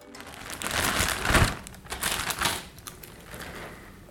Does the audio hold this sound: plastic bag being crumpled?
yes